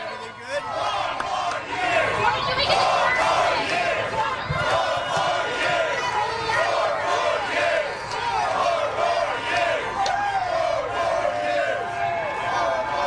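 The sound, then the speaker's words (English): A dense crowd shouts and cheers continuously, many overlapping voices calling out, with a loud, steady roar that never drops away, at a bodega in Harlem, New York, during a visit by Donald Trump. “Here's a little bit of how the crowd sounded when he went to Harlem yesterday at this bodega.”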